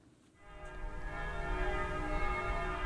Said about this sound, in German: Hier der friedliche Glockenschlag des Konstanzer Münsters